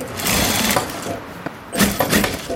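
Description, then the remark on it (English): A sewing machine, worked by a man from Syria at his business in Denmark at 8 o'clock in the morning, whirs in steady bursts, its rapid mechanical stitching rising and falling over about two and a half seconds, with no voices present. “already busy at work at his sewing machine is Ahmed Bakir from Syria”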